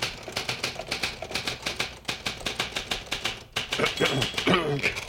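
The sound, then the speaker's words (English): A typewriter clacks away in a quick, steady run of sharp keystrokes, fairly loud, with a voice briefly joining near the end. “Because you see this typewriter? Yes, I see that typewriter.”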